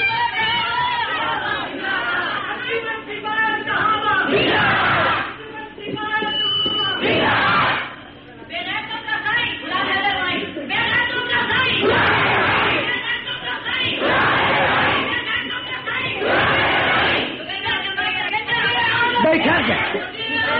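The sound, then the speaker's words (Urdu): A large crowd chants slogans loudly in rhythmic, surging bursts, many voices shouting together almost without pause, with brief dips before the chanting swells again. “ٹھہر جائیں، ابھی بڑے بڑے نعرے پڑے، نعرے سارے نعرے سنبھال کر رکھو، ٹھیک ہے؟”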